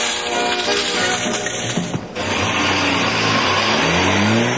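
A car engine roars loudly, its pitch climbing steadily as it revs harder toward the end, with a brief dip in the noise midway and no voices.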